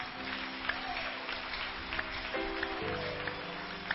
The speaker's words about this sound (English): Church, let's clap our hands for Jesus.